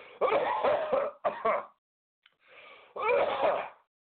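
A series of rough, harsh coughs and throat-clearing bursts, four close together in quick succession, fairly loud, with brief pauses between them and no talking.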